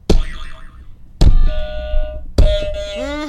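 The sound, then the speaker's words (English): Three quiz buzzers are tested one after another on Wandsworth Radio before a quiz, each a loud, sudden, ringing novelty tone with a different pitch and character, the last one wobbling and bending like a boing. “But I just wanted them to test their buzzers first, just to double check that they are working.”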